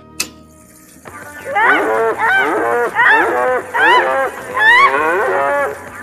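A cow moos over and over, five or six loud bellows following one another almost without pause, each rising and falling in pitch, after a brief click at the start.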